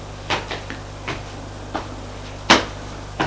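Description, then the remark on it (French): A bedroom door is pushed shut with a few soft knocks and latch clicks, then a firmer close near the end, over a low steady hum, with no talking. “Alexis ferme la porte.”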